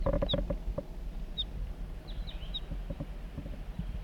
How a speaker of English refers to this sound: So recording, I'm on my way down the hill and I've met up with crossbills, perhaps the same birds as before. Yeah, looks that way. A juvenile and the male, that's the male.